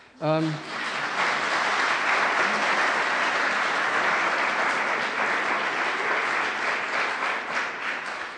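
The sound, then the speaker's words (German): An audience breaks into sustained applause for a couple married over 60 years, a dense, steady wash of many hands clapping that holds at full loudness for several seconds, with a brief voice at the very start. “Darf man schon mal klatschen, genau.”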